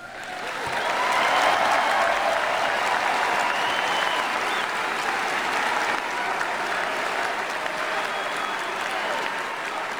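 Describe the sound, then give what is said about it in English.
A large crowd at a political speech applauds and cheers steadily, dense clapping mixed with shouts and yells filling the space at a constant, loud level for the full ten seconds, with no speaker talking over it. “The crowd is yelling, help is on its way, or on the way.”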